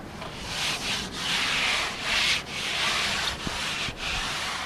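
A surfboard being worked over by hand: steady, hissing rubbing strokes repeat in a loose rhythm, each briefly broken by a short pause. It is fairly loud, with no voices.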